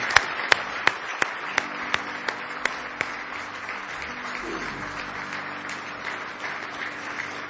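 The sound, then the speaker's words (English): A large church audience claps in praise of the Lord in the morning, applauding in a dense, steady roar, with sharp rhythmic claps standing out over the first few seconds and a low sustained tone humming underneath. “Now let's give the Lord a big hand clap of praise this morning.”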